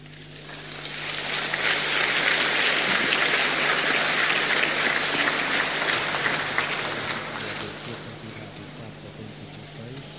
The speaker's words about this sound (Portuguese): Celebração litúrgica. Os aplausos dos participantes a esta celebração à sua santidade o Papa Bento XVI.